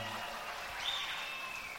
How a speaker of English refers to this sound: What are you clapping for now? Well, it's nice to know you're on our side.